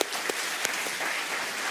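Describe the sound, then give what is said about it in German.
Dense, steady applause from a crowd, many hands clapping at once in a continuous wash of sound with a few sharper claps standing out near the start. “gebt nochmal einen Applaus”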